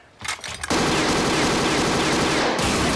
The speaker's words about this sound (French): Il se tourne vers la fenêtre et tire sur la patrouille. Quatre Allemands tombent, un autre riposte et tombe à son tour.